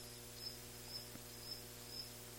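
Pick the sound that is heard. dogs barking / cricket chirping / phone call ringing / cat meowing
cricket chirping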